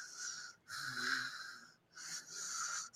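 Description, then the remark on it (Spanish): A person imitates snoring with their voice, making three raspy, wheezing breaths in a steady rhythm, fairly loud, with brief pauses between them. “O sea, digo, yo no ronco como tractor. Eso sí lo sé porque se me ha dicho que ronco así.”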